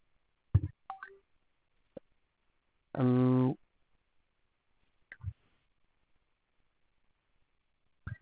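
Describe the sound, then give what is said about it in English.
A single short electronic phone tone rings for an incoming call from a client. It is bright and buzzy and sounds once for about half a second, surrounded by quiet gaps and a few brief soft mouth sounds and clicks. “My phone was ringing. There was another client calling in.”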